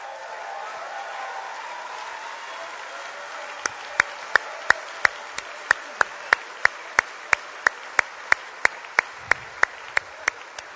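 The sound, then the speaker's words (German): Thin, meager applause: a steady run of about twenty sharp, evenly spaced claps after a few seconds of low background hum, sounding like only one or a few people clapping. “Und das, meine Damen und Herren, ist jetzt sehr ein mickrigen Applaus gewesen.”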